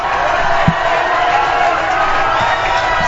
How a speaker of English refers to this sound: Both sidelines imploring their faithful to get up and cheer and give a little extra momentum if they can find a way for that to translate onto the field.